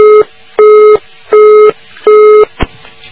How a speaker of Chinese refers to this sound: 好，那么听众朋友们，电话正好断掉了。